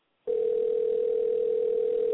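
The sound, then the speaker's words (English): A telephone line rings out with a single steady mid-pitched tone that starts abruptly and holds unbroken for about two seconds, with no one picking up and no voices. “And they just letting it ring.”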